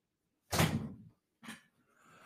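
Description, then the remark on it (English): A door is pushed shut with a solid, fairly loud thud that rattles briefly, followed by a softer second knock as it latches, then a quiet low rumble. No one speaks. “I heard a noise and I'm like, okay, hold on, my wife's here. Let me shut the door.”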